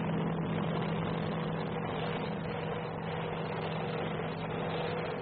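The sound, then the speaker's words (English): A Marine H-34 medevac helicopter's engine drones steadily for about five seconds as it comes in under Viet Cong fire, a loud, even roar with a low humming tone running underneath and no break or talking. “Looks like the H-34, the Marine H-34 is coming in.”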